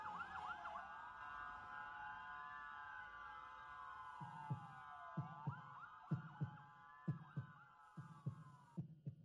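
A steady lub-dub heartbeat thuds in low, paired beats, starting about halfway through beneath a loud, rising-and-falling emergency siren that wails throughout. No one speaks.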